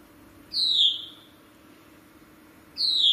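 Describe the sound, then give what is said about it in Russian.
A small bird sings outdoors at a dacha, heard through an open door: two high, clear descending whistled notes spaced a couple of seconds apart over a low, steady background hum, with no one talking. “И тут вот дверь открыта на улице. А там птичка поет.”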